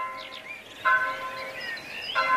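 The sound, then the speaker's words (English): Church bells ring out in two clear strikes, each leaving a long, humming tone that lingers, while birds chirp faintly. “Bells ringing out from monasteries and parish churches, not just ringing out the time of day, but calling people to prayer.”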